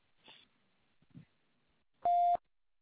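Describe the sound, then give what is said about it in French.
A single loud, steady electronic beep about a third of a second long, the voicemail tone, preceded by a couple of faint, brief rustling noises and then silence. “Merci de laisser un message après le SMS sonore.”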